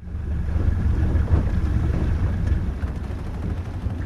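Steady low rumble of wind buffeting a microphone out on open water in Elliott Bay, Puget Sound area, with faint lapping and sloshing around a drifting boat whose engines have been cut, no engine running and no voices.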